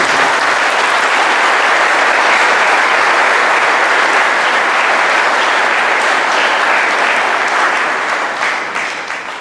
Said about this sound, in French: Un applaudissement.